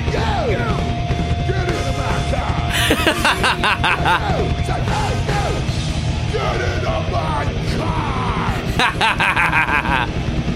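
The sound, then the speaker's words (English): A steady car horn blares inside a dense, loud song, mixed with shouting voices and rhythmic bursts of percussion throughout. “It's the car horn, which is so good.”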